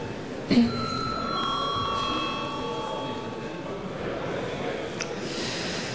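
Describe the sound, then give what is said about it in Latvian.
An electric bell rings with a steady, bright tone for about three seconds at a sitting of the Saeima, Latvia's parliament, reminding deputies that the session is starting, then fades, leaving a murmur of room noise and movement. “Varbūt var lūgt vēlreiz zvanu, atgādinot deputātiem, ka sēde sākas.”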